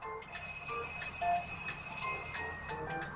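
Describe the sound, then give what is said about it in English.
An alarm clock rings loudly, a continuous rapid metallic jangle of its bell that runs unbroken for a few seconds before stopping, with no voices. “It can be an alarm clock.”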